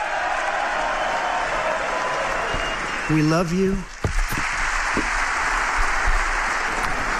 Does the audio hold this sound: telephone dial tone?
no